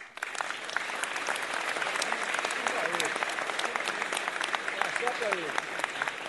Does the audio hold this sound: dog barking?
no